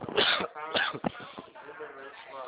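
coughing fit

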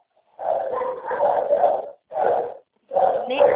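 dogs barking

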